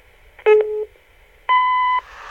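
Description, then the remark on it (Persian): An answering machine beep sounds twice: a lower, buzzy electronic tone lasting under half a second, a short pause, then a higher, brighter steady tone. Both are loud, with no talking. “لطفاً بعد از شنیدن صدای بوق برام پیغام بگذارید.”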